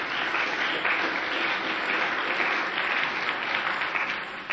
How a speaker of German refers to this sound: Wenn wir schon so schön gerade Beifall gegeben haben,